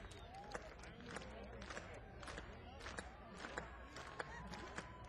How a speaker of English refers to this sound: Hey, y'all, clap your hands with me right now.